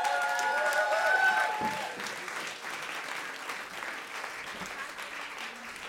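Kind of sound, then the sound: crowd, crowd clapping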